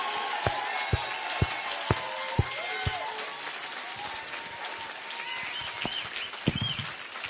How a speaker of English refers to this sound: So please give her a huge round of applause.